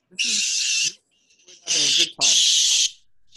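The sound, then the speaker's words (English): A squid-shaped squeaky toy lets out three loud, shrill squeals, the first long, then a short one and another long one, sounding much like a squealing pig. “Sometimes squids sound like pigs, and that's valid.”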